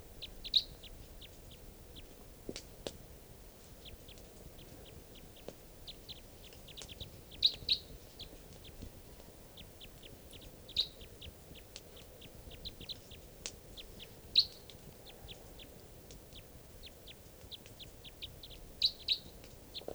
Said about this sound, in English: a flock of wild crossbills here, about 8 birds up in the top of a tall lodgepole right above camp. So, still recording at about 6:00 p.m. and there's some type 3s, I think, coming in. Stop. Still recording. Recording, these are the wild birds.